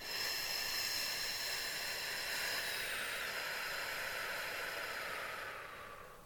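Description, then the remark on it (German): A long, slow breath blown steadily out during a breathing exercise, after breathing into the belly, a soft airy hiss that holds for about five seconds before tapering away. No one speaks. “Und ein letztes Mal fassen Sie mal auf den Bauch und dass Sie sehen, dass der Bauch rausfällt und pusten Sie die Flamme langsam in eine Richtung. Und einatmen. Und pusten.”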